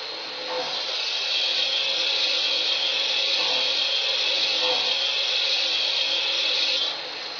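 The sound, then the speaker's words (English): A steam boiler injector hisses in a steady, loud rush of noise that starts abruptly, holds evenly for several seconds, then cuts off. No voices are heard. “On the injector.”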